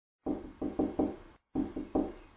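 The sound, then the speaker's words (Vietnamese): Soft, hesitant knocking on a door: two quick bursts of three muffled raps each, separated by a short pause, steady and persistent at a low volume, with no voices. “Tôi giật mình tỉnh dậy, có ai gõ cửa, tiếng nhẹ mà liên tục, dè dặt, nghe như tiếng chuột gặm nhấm thứ gì.”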